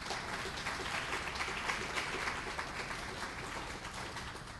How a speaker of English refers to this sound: And if we could have a round of applause for Dr. Brainerd.